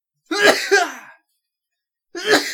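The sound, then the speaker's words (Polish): A man sneezes: a harsh, breathy two-part burst, a short silence, then another sharp, noisy sneeze that is cut off at the end. No one speaks. “A niech pan kichnie.”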